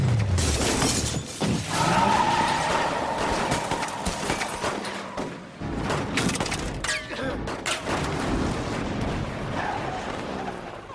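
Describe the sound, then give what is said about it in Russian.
A dense barrage of gunfire aimed at a fleeing group, many sharp shots cracking in rapid, irregular succession over about ten seconds, loud, with a chaotic, shattering clatter and occasional voices buried in the noise. “Целый город по нам хуячит!”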